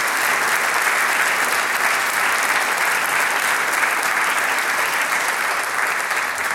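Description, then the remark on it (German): Sustained audience applause for the cultural officer who organised the evening's event, a dense steady wash of many hands clapping at an even, loud level throughout, with no break and no voices standing out. “das ist einmal dein Applaus.”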